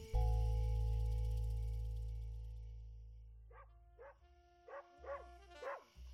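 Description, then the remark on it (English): A low steady hum fades away, then a dog barks in a quick, uneven run of about five short, moderately loud barks toward the end, with no one talking. “I gave the waffles the grab stack, so stop barking.”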